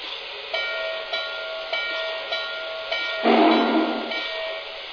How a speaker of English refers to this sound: the 611 steam excursion is approaching the station. Please be ready to board.